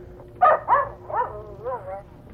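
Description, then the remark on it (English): An English Cocker Spaniel named Jessica gives four or five short, high-pitched barks in quick succession, moderately loud, over a faint steady hum. “Well, that's a damn barking dog.”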